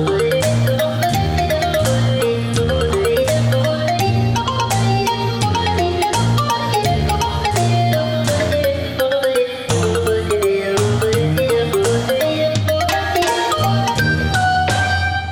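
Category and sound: signal or alarm, mobile phone ringtone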